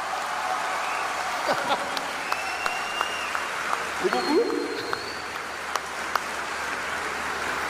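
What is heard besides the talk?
audience applause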